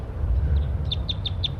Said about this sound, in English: And that's wild birds right there, perched in the oak tree above the net site. Stop. Start recording these wild birds' flight calls.